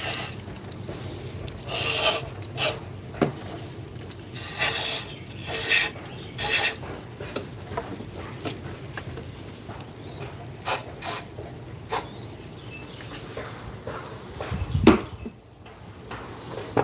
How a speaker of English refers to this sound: Okay, take the toothbrush and rub again. It's coming off a lot cleaner this time, but now let me open up the where the grime is behind that little floppy door. Yeah, it's coming out. It's coming out kind of black, but not nearly as bad as before.